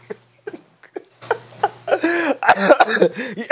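A man coughs several times in short bursts, spaced apart at first, then runs into a louder, rougher stretch of coughing mixed with voiced throat sounds.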